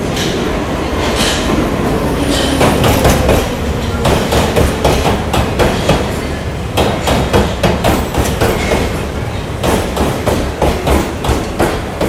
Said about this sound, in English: Please mind the gap between the train and the platform.